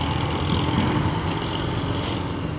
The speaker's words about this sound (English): I've been walking beside a FedEx truck.